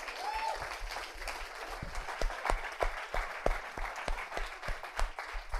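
A small audience claps steadily, a dense patter of hand claps with sharper individual slaps standing out, moderately loud and close, sustained throughout without any talking.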